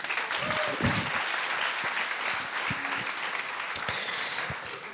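Steady audience applause, a dense wash of many hands clapping at an even level for the full stretch, with a few faint voices and a brief whoop mixed in.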